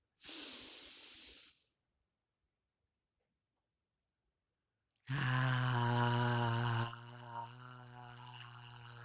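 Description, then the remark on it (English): A breathy rush of air for about a second and a half, then silence, followed by a loud sustained voiced exhale during a conscious breathing exercise, a long low tone with strong harmonics that softens slightly toward the end. “Let that out with the sound of your voice.”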